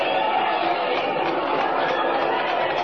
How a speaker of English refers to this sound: Look at all those people. Listen to them cheer.